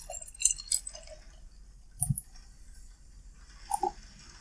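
Beer from a can is poured into a glass, trickling in quiet, sparse spurts: a few soft drips and light glassy clinks, with a dull thud midway. Faint, with no one talking.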